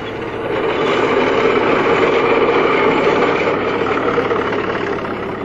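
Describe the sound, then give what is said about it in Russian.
A steady, droning engine hum of Soviet tractors runs continuously, loud, with a low rumble and constant vibration; no voices are heard. “за это мирное сегодняшнее небо и за мирное гудение тракторов, не танков тех, танков, которые именно так же гудели тогда, а мирных наших советских тракторов.”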